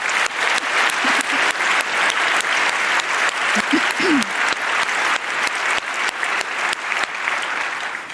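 A crowd applauds steadily and loudly at the end of an event, for all the volunteers who helped with the event's post service: dense clapping from many hands with a few faint vocal whoops or shouts mixed in partway through.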